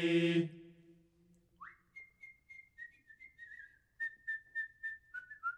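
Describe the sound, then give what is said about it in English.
A person whistles a short fraternity tune, a rising note then a string of steady, slightly wavering pitched notes with small dips, after a brief harmonic vocal sound at the start. “The whistle of Sigurd fraternity.”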